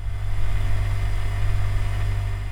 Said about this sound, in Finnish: Jääkaapin metelöintiä.